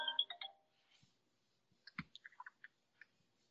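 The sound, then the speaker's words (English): A work phone's brief electronic ringtone chimes at the start, then cuts off, followed by scattered soft clicks and taps. No one speaks. “Your good work phone went off.”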